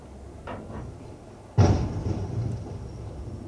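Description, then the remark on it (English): Two faint knocks come first, then a sudden loud crunching impact as a big rig truck slams into a car on an icy road, followed by a rumbling tail and a thin, steady high whine that lingers to the end. “He tore the shit out of that car.”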